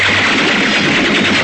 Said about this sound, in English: Fire a volley through the window pane.